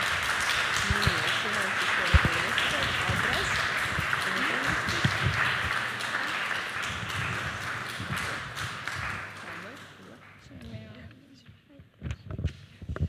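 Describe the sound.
A crowd applauds steadily for about ten seconds for a group of children being introduced at a Sunday school event, with voices murmuring underneath, before the clapping thins out into a few scattered, isolated claps.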